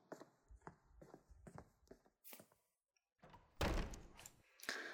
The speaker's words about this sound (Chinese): 哎，关门声音这么大，还说没生气。